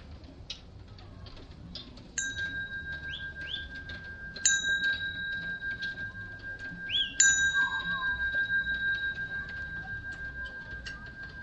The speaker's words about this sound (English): So the bell signals another transition to just moving a little, opening our eyes, coming into the space.